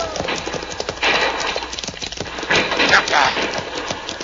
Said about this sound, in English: See, Pancho stampede the horses.